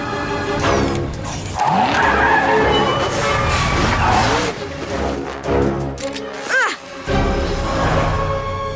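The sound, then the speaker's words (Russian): Catboy's cartoon car, the Catmobile, roars loudly and skids with screeching, swooping tire squeals, engine noise surging and dipping throughout, with brief voices mixed into the chaotic action. “Кэтмобиль! Рев!”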